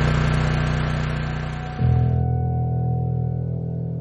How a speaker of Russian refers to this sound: все вот вытаскивают на улицу тяжелые огромные генераторы. Они там либо уже заправлены соляркой, либо их заправляют соляркой. И вот они начинают пыхтеть и трещать. И вот все абсолютно, весь район вот полностью со звуком этих генераторов.